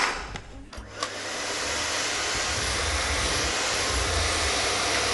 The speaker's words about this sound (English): Tim, you can have the vacuum cleaner.